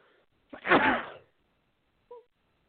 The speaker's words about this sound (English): And I got an even bigger blessing because I just sneezed twice.